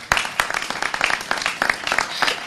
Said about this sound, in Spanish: Levanta la mano. Ahí el campeón, ¿eh? Un aplauso para el campeón.